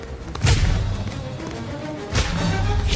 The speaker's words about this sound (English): Fire the starboard cannon!